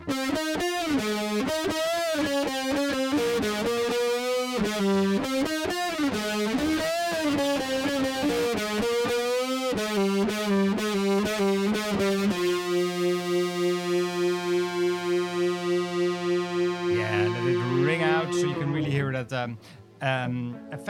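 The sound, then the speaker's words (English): An electric guitar plays a riff through a heavy distortion pedal, then holds a sustained chord whose loudness wavers steadily with a shimmering wobble from a Small Clone chorus pedal, loud, before it cuts off abruptly. “Still the bass distortion pedal, and sometimes combined with the small clone chorus.”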